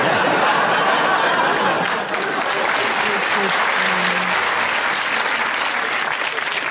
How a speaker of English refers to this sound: Well, you're applauding someone being very weaselly. Yes, you could, but it's not in the spirit of this game.